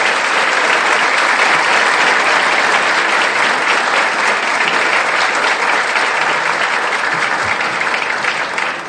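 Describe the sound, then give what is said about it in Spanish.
Sustained applause from a university audience, a dense steady wash of many hands clapping at a loud, even level for the whole stretch, with no speech over it. “Por esos resultados en COALTOS, por esos resultados en SUB, pido verdaderamente un aplauso a la gestión que ha venido haciendo la maestra”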